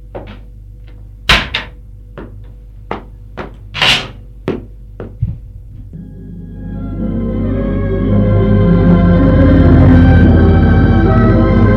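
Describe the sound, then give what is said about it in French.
A woman sits down on a wooden chair: a series of sharp wooden knocks and thumps with faint creaks, followed by a steady broad noise that swells and fills the background. “Elle s'assoit sur une chaise.”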